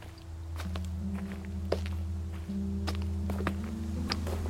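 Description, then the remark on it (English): Several people's footsteps crunch and thud at an uneven pace over a steady low rumble as they carry a stretcher into the vast mouth of a cave. Occasional sharper knocks and scrapes echo. “The sound of their footsteps give me some sense of the surroundings.”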